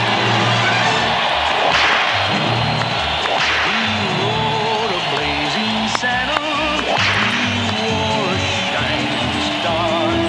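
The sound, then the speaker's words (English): A large crowd applauds steadily and loudly during the Brent Winterbull Show on News Talk 1110 WBT, as former Congressman Jason Lewis is introduced. Thick clapping is mixed with cheers and whoops, holding at an even level for the whole stretch with no clear break. “Stay seated, everyone. Hold the applause.”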